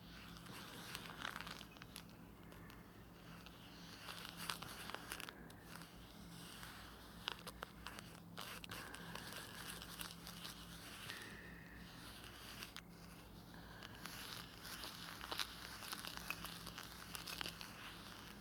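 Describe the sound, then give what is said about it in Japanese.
Something being whisked into foam: a steady, fizzy crackle of many tiny clicks and rustles running continuously, fairly quiet, with no voices. “ああそうだ、泡立てる音聞かせてあげるわね。”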